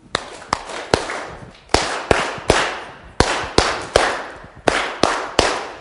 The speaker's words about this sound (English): Let's try it with the clapping.